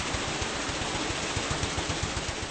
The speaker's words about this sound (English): The heart of the mill, of course, is the water wheel, noisy and powerful.